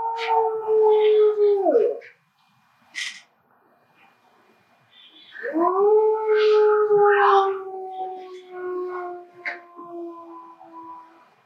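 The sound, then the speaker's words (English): Wolves howl in a video being played, in long, sustained, wavering tones, one howl for about two seconds, then after a pause several voices rising together in a drawn-out chorus, with faint yips scattered over it. “Now, if I get this right, I have a video here which is going to show his kinship with wolves.”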